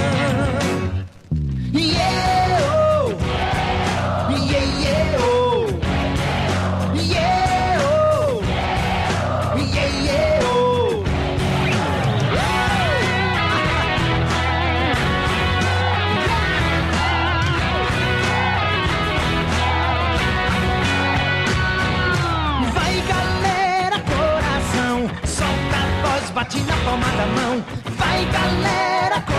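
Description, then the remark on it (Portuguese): A concert crowd yells and cheers loudly and without letup, many voices overlapping in rising and falling shouts after a brief pause at the start. “Eu quero ouvir vocês nessa troca de energia. Vai, galera, coração. Quero ouvir a multidão.”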